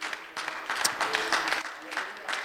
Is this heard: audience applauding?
yes